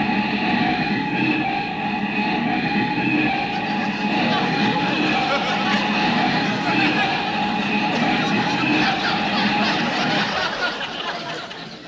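An old car driven by Rochester rumbles loudly while its brakes let out a long, steady metallic squeal, the noise holding for several seconds before easing off as it stops in front of Miss Livingston's house.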